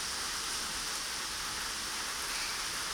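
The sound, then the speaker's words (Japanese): Heavy, steady rain from a sudden summer evening shower pours down in a dense, continuous hiss, a full-bodied downpour with no pauses or voices throughout. “嫌になっちゃうよね、この夕立。”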